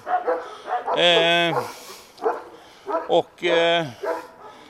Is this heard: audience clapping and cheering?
no